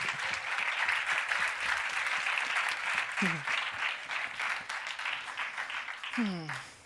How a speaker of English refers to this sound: And please welcome her with a big round of applause.